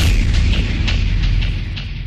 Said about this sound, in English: Explosion?